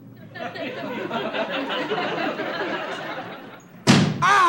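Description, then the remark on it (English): A low murmur of voices runs for several seconds, then a single loud, sharp door slam bursts in, followed at once by someone starting to speak. “Michael, you have to slam the door like that?”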